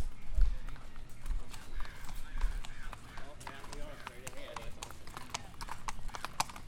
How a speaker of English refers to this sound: And here are some real bio horses.